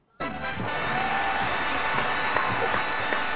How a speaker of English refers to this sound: Applause, applause, applause.